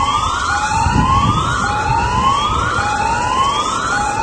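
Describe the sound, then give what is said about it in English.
A loud tsunami alert siren wails in repeated rising sweeps, about one per second, over a low background rumble, with no voices, echoing across communities after a magnitude 8.1 earthquake sparked a nationwide tsunami alert. “The eerie sound of tsunami alert sirens echoed across some communities, while others were alerted by text messaging.”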